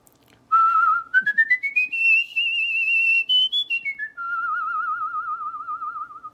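A single clear whistle climbs step by step to a high sustained note, then drops back down to a lower, wavering tone held to the end. No one speaks.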